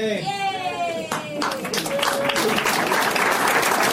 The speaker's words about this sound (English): Yay! Very tepid applause. People are not happy for you.